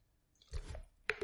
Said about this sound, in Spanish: Todo el mundo anda en la calle con estas botellitas, no sé por qué. Es una triste botella de plástico, nada más. Pero bueno, han tenido éxito. Así que me voy a dar un sorbo.